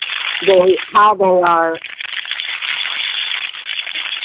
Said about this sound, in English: Could somebody stop rustling papers there?